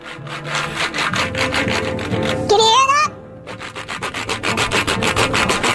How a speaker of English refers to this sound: That's me cleaning my keyboard from all the crap … left on it.